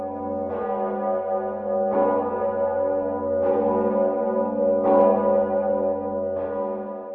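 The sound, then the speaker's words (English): The deep, massive Zygmunt bell of St. Vitus Cathedral in Prague tolls five times at a slow, steady pace in honor of the canonization of St. Agnes of Bohemia, each strike swelling over a continuous low resonant hum that never fully fades between blows. “Agnes of Bohemia by Pope John Paul II just a few days before, and in her honor, the mighty Zygmunt bell rang out.”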